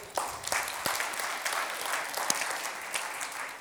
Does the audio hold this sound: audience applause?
yes